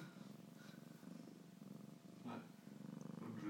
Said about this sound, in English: Now he's rubbing his head on my phone. Licking and purring.